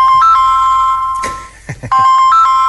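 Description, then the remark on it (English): A cell phone ringtone plays loud, a repeating electronic melody of bright tones that breaks off briefly amid a few soft thumps, then starts up again; it is the driver's cell phone ringing in the middle of the Serengeti. “And I said, you have cell phone in the middle of the Serengeti?”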